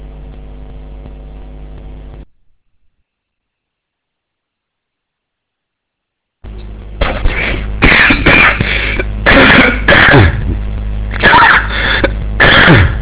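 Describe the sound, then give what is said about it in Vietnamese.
Repeated coughing from a Buddhist monk comes in a run of harsh bursts after a stretch of silence, each cough loud and rough, with a steady hum at the very start. “Mặc dù là biết đại đức hôm nay là ho, nhưng mà hy vọng rằng sau cái câu thảo luận này, đại đức thảo luận xong thì đại đức sẽ hết ho.”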